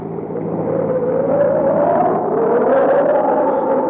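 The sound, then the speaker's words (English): A steady, loud roar of strong storm wind buffets a moving car on a road through the hills, with a low engine rumble beneath and a rising and falling whistling tone sweeping through it, continuous with no voices. “You'll never be able to keep the car on the road with a wind like this.”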